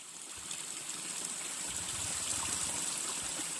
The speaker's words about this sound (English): Volunteers collect sewage water flowing into a river to conduct tests.